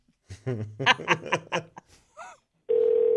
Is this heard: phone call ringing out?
yes